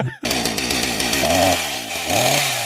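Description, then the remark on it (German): A short improvised jingle for a Warhammer update segment, voiced as a loud, buzzy, revving drone with rising and swooping pitches, like a vocal imitation of an engine or distorted guitar, and no clear words. “Darf ich einen Jingle bauen für Warhammer-Update?”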